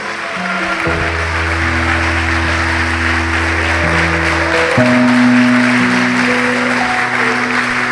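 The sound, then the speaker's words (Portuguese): An audience applauds the name of Jesus after a prayer, clapping steadily and loudly for several seconds in a dense continuous patter, while sustained keyboard or organ chords hold and shift beneath it. “E vamos aplaudir o nome de Jesus.”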